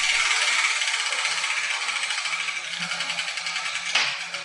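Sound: spinning letter wheel rattling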